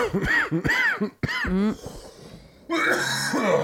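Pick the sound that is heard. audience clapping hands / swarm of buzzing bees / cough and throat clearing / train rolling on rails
cough and throat clearing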